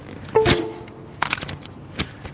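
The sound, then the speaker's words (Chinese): Sharp computer mouse clicks from a mouse that seems to be malfunctioning, in a few quick bursts with short pauses between them over a faint hum. Nobody speaks. “鼠标好像有点问题”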